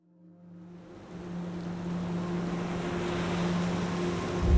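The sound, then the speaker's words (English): Ocean waves wash steadily around a passenger boat sailing towards Australia, a low engine drone humming beneath the swelling surf and wind, growing gradually louder with no one speaking. “In 1956, a young man stood on a passenger boat as it sailed towards Australia.”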